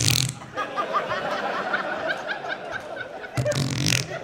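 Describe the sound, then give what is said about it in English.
A voice makes a goofy mouth imitation of a fart, a buzzy, sputtering raspberry with a short burst at the start and a louder one near the end, mixed with snickering laughter. “I would fart into my positions. Everything, I'd just go.”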